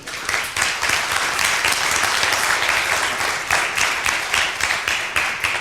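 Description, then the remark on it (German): An audience applauds steadily after a talk, dense clapping at a constant loud level throughout, with no voices standing out. “Erstmal Applaus abgreifen, hast du verdient.”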